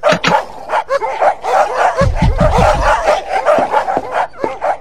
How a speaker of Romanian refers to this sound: Ograda voastră e plină de câini. Îi auzi cum latră.